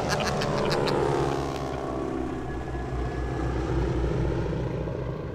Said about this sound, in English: Lao's sedan skidded to a stop outside the airport fence, and Indy gave the hoods a jaunty wave as the plane taxied away. Nice try, Lao She! But Indy didn't see the name painted on the plane's door. Lao She Air Freight.